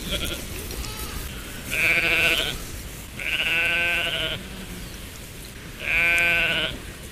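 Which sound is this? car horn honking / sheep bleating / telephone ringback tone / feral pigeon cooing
sheep bleating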